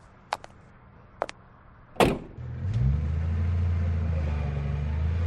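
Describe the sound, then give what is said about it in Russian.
A few sharp clicks and a solid thud, then a limousine's engine turns over and settles into a steady, low idle as the car stops at an embassy, running to the end. “Лимузин остановился, и Торн вышел из него.”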